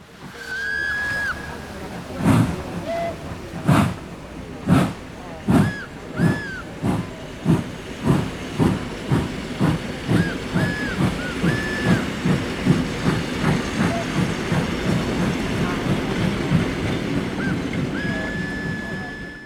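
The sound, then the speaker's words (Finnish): A train rolls along the rails with a rhythmic clickety-clack that speeds up as it gathers pace, over a steady rumble with brief high squeals from the wheels. “Sinä, Ritva, olet päässyt junankyytiin ja poiskin.”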